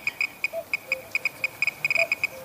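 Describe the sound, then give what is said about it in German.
A Geiger counter in a sound recording made at Chernobyl clicks in an irregular stream of sharp, high ticks, sometimes bunched into quick bursts, with a cuckoo's faint brief tonal notes in the background and no talking. “Nee, es ist ein Geigerzähler.”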